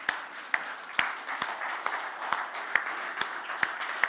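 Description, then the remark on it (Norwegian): An audience applauds steadily for the mothers, who have stood up, a dense wash of many hands clapping at once, with a few sharper individual claps standing out at a brisk, fairly regular pace. “Og så gir vi andre mødrene en veldig god klapp.”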